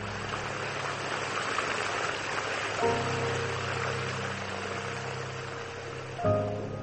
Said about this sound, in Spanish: Veo el río a lo lejos. El fragor de las aguas se desvanece.